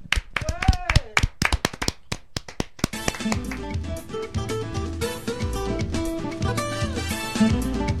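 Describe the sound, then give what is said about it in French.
A few seconds of sparse, sharp hand claps from a small group at the end of a French television show, with a brief voice among them, then a song with steady bass and melody takes over. “Donc un tonnerre d'applaudissements.”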